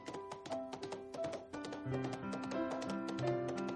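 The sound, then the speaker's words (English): Quick, steady clip-clop of galloping hooves, sharp rhythmic taps running under a bright, tuneful musical backing at moderate volume. “And then he starts to gallop, going faster and faster.”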